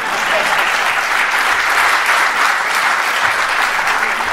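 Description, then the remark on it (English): A crowd applauds steadily for a few seconds in response to a speech on Chicago housing policy, a dense, even wash of many hands clapping at constant loudness with no voices rising above it. “You can clap for that.”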